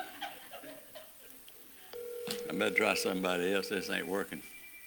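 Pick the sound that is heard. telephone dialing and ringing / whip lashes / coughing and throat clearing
telephone dialing and ringing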